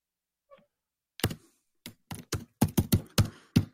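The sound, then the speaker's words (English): After a brief quiet moment, loud typing on a computer keyboard: a burst of sharp, clacky keystrokes in an uneven rhythm, growing busier toward the end. “Is his computer fucking keyboard mic'd? Who types that loud?”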